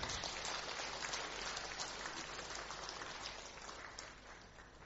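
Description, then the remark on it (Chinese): An audience applauds to welcome a man being introduced, with dense, steady clapping that carries on for about five seconds and tapers off slightly toward the end, with no one speaking over it. “俾掌声佢啊！”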